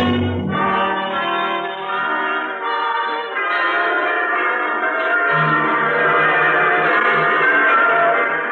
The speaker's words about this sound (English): The bells are ringing throughout the land this week. Hundreds of bells, thousands of bells, tens, perhaps hundreds of thousands of bells.